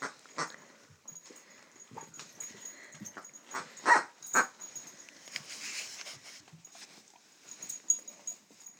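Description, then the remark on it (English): A dog named Iris chews and squeezes a squeaky duck toy, producing irregular bursts of shrill, high-pitched squeaks, some sharp and loud, mixed with soft snuffling and whimpering noises, with no one talking. “They both squeak exactly the same. So that's Iris squeaking. A duck.”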